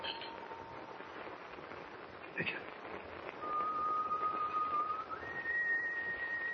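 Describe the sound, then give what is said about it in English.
Someone standing on a ship's deck whistles a slow tune of long, drawn-out notes that step upward, clear against a steady rushing background noise, with no talking. “It's just whoever's whistling is standing right outside on deck.”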